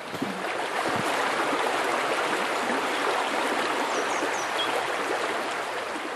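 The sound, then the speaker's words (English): The River Ban, a tributary of the Slaney, rushes past steadily, its broad, constant wash of water filling the scene from start to finish, fairly loud, with no voices. “This is the River Ban, and it's a tributary to the Slaney.”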